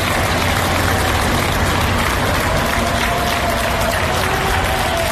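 Workers of Emaya applaud health workers in the daily applause, a steady, dense wash of many hands clapping at once with no single claps standing out, plus a faint tonal hum running underneath the whole time.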